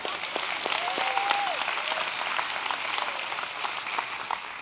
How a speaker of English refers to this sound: Let me just tell you how we're going to clap together. Let's do it together.